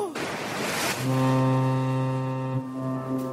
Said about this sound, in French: Ah, ce bruit de bateau, ça donne envie de partir en vacances.